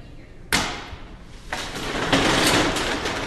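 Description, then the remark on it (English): A post office customer window slides open fast at 8 a.m. sharp and ends with a sharp bang, then a second clack follows, leaving a rustling, busy background. The sounds are fairly loud. “At 8 a.m. sharp, the window flew open, like the curtain going up on a play”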